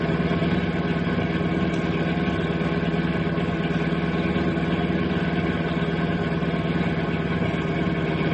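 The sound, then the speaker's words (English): A car engine runs steadily on a highway as another car pulls alongside, a continuous droning hum with a low rumble that holds even throughout, with no voices and no change in pitch. “flash your tail light by pushing gently on the brake pedal. Don't stop the car.”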